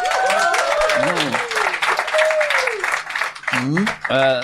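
audience applause

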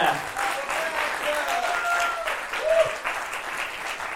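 audience applause

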